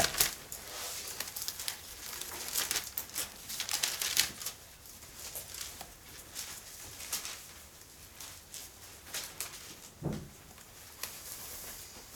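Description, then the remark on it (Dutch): Thin Bible pages rustling and flipping several times in a row, soft crisp swishes and crinkles, with a slightly louder flick near the end and no talking. “3 bladzijden verder.”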